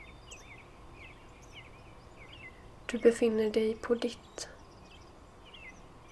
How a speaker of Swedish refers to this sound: Du hör fåglarna kvittra.